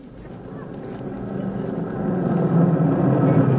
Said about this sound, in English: Hey, the milkman just pulled in the driveway.